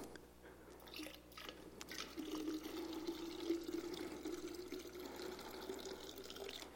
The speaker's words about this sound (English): And he said, fill 4 pitchers with water and pour it onto the burnt offering. Listen, shh, probably bigger than that.